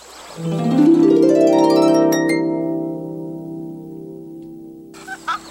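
A little frog's croak rings out as one long, loud, buzzy tone that slides upward in pitch, then holds and slowly fades, followed by a brief faint rustle.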